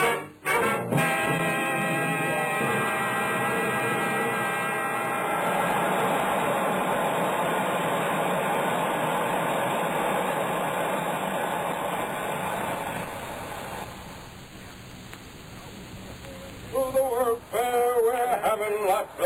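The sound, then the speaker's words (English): A loud, steady rocket ship engine hum, heard on board a rocket ship, drones continuously with a rich whirring roar, then drops away to a quieter rumble before a voice starts speaking near the end. “Here, then, is a story about a tomorrow 55 years hence, September 20th in the year of our Lord, 2000, on board a rocket ship.”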